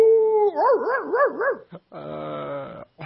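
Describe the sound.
A person imitates a dog, starting with a long wavering howl that rises and falls, then switching to a few short, throaty bark-like yelps, loud.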